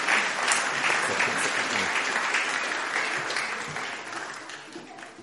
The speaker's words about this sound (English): Give them a clap for helping me out.